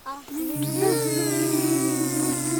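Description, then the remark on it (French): Schoolchildren at a school in Saint-Julien-du-Cerf imitate a bee during a lesson about small creatures, a steady, sustained buzzing hum from several young voices that starts after a brief murmur and holds loudly for about two seconds. “Vous me faites le bruit de l'abeille, ça fait comment ?”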